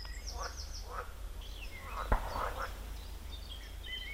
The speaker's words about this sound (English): And now it looks like a lovely pond, complete with frogs.